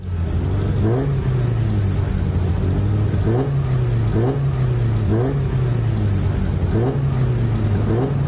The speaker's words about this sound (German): Die Autos stehen in einer Reihe im Fahrlager mit eingeschaltetem Motor und sind bereit, um auf die Strecke zu gehen. Ein gut 3 km langes Stück Strasse zwischen Valbella und Oberfatz ist extra für das abgesperrt worden.